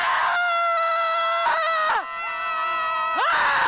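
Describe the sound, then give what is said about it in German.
Loud, sustained high-pitched screaming from several women shouting at the sea on a beach to let out their anger, held for long stretches with a brief dip and pitch slides between breaths, intense throughout. “Brust raus, die Arme ausbreiten und den Oberkörper nach vorne beugen und dann einfach das Meer anbrüllen, was das Zeug hält.”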